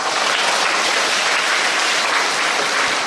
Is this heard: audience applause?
yes